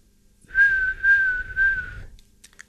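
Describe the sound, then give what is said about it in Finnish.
A person in a radio studio whistles an imitation of a gull, as part of imitating bird sounds: one sustained, steady mid-high note swelling in three pulses over about a second and a half, heard alone without speech. “Seuraavana lokki.”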